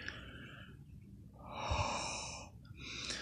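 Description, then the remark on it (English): Airy ASMR breathing right into the microphone, a soft breath at the start swelling into a longer, louder exhale in the middle, then another breath beginning at the end; no talking. “Mostly involves me whispering and breathing into the mic.”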